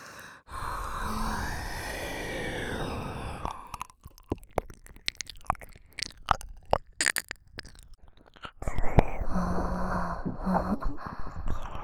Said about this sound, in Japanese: そんじゃあここまで耐えたご褒美に。お菓子尽くすみたいなエッロいジュルジュルの耳なめやっちゃいまーす。